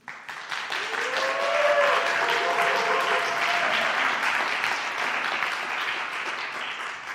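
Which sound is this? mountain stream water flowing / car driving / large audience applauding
large audience applauding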